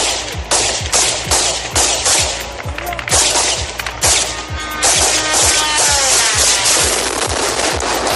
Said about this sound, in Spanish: Apunta a que Rusia habría comprado este modelo de 200 kilos de peso y una velocidad de hasta 185 kilómetros por hora que la policía ucraniana no ha dudado hoy en intentar abatir a disparos.